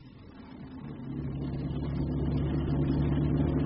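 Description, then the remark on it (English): A car engine rumbles low, then swells louder after about a second into a steady, droning hum as the vehicle pulls away. No voices are heard. “Climb into the car. I think I'd better drive.”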